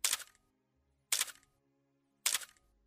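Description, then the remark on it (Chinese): Three crisp camera shutter clicks, sharp, each followed by a brief mechanical tail, spaced evenly about a second apart with quiet in between and no voices, as a nude model is photographed from many angles under brightened room light. “随着一声声快门的按下，这一美丽的时刻被永远地记录了下来。”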